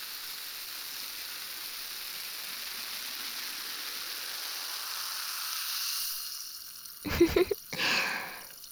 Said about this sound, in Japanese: こちらは、ただの綿棒ではなくて、炭酸綿棒となります。パチパチと、心地よい音がしますので。